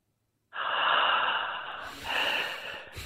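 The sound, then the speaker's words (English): Heavy breathing by a radio caller from Sydney into his phone for a guessing segment: a long, rough exhale followed by a second breath, loud and noisy with a harsh, snorting rasp. No talking. “can I ask you just to breathe into your phone?”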